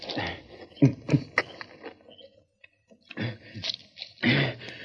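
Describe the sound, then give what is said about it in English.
A wounded ranch foreman gulps water in a few noisy swallows with wet, slurping bursts and heavy breaths, pausing briefly before drinking again; no one speaks. “Thanks. I needed that drink.”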